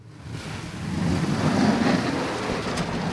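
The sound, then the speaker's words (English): A municipal snowplow truck clearing a sidewalk in downtown Portland, Maine, after a winter storm: a steady engine rumble mixed with a broad, hissing scrape that swells as the machine approaches and then holds, with no voices. “A municipal snowplow clears a sidewalk in downtown Portland.”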